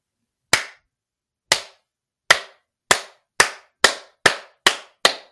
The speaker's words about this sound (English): In the dark and musty room, the couple counted 50 claps. They seemed to come from every side of the forest. As the last clap echoed throughout the cabin, a chill filled the air and the front door flew open.